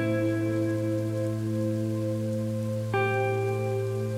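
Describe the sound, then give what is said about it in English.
Steady rainfall hisses softly on grass beneath a sustained, humming musical drone whose tones shift about three seconds in; no one speaks. “You can see the movement of the grass around you as the rain continues to fall.”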